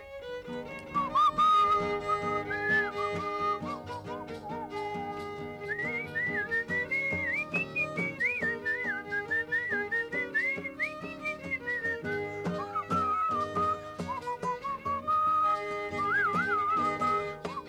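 A woman whistles a well-known Gypsy folk song over a steady instrumental backing, the bright lilting tune rising and falling continuously for the whole stretch with no talking.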